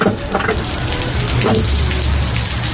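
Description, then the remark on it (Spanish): Heavy rain and hail pounding down on a winter day in a dense, unbroken roar, loud, with a deep rumble underneath and no voices. “No para de llover ni granizar.”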